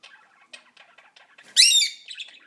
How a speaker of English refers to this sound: We've got two little lovebirds as well. Oh, there they go. Yeah, we just had two little noises from the lovebirds. Ah, you're squawking at me, Priya. What do you want?